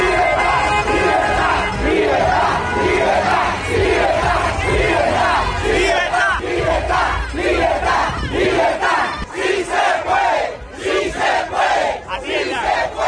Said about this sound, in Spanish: Con banderas y gritando libertad, a los cubanos que residen en Estados Unidos expresaron su apoyo a las manifestaciones que ocurren en la tierra natal. Y este es el grito, mis queridos amigos, tanto dentro como fuera de Cuba.